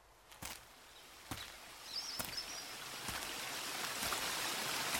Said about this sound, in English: Oh, well, and this is the waterfall. The waterfall is situated at the highest section of the park. And to be honest. Reaching the waterfall is not an easy job at all.